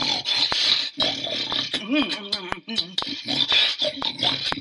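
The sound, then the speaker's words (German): A small pig grunts and snorts while eating in a forest, with wet smacking clicks scattered throughout, low rough grunts rising and falling over a steady noisy chewing texture. “Und man hörte es schmatzen und grunzen.”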